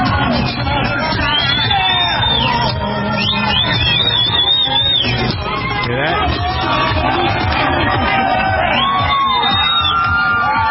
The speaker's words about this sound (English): The whole gang sitting in the back of the pickup truck clapping and dancing around. You can hear the crowd gathering.